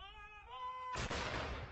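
A sustained tonal hum gives way to a sudden loud cannon shot, part of a 96-gun salute in England marking the death of Queen Elizabeth II, its broad blast rolling on with a rumbling echo until the end.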